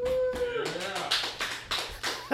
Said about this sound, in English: And, of course, we are in Rollingsford, New Hampshire, and we have a live audience here. Let's hear some clapping.